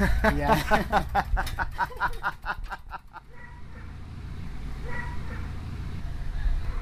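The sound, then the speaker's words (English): A lorry that has just arrived runs its deep engine rumble steadily throughout. Over its first few seconds a dog in the background barks in a rapid run of sharp, repeated yelping calls, which then stop, leaving the idling engine alone. “As you can hear by the dog barking in the background, the lorry has just arrived.”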